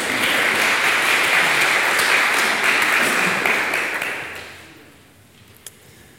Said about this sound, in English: Thank you guys very much. Thank you. Yes, you can applaud.